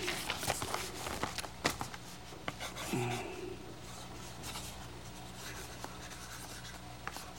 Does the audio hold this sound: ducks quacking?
no